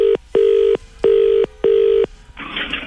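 A telephone rings in four short, evenly spaced electronic tone bursts, steady and mid-pitched, during a phone call broadcast on the FM104 radio station, followed by a brief rustle of noise as if the handset is picked up.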